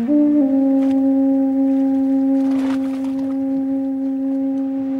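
The horn of the cruise ship Aranui 5 in Polynesia sounds one long, steady, low blast that holds for about five seconds at full strength, its deep tone layered with harmonics, before cutting off abruptly.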